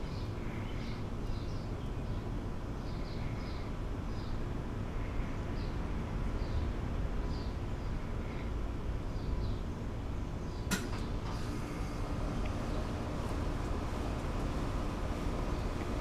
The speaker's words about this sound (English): That motor you can hear, especially for those not accustomed to hearing American style power things, is an air conditioner. Not ours, someone else's.